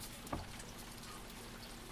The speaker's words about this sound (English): It is still raining.